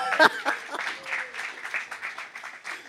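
A room full of people claps steadily for a few seconds, the applause dense and moderately loud with a brief louder burst near the start, with faint voices mixed into the crowd.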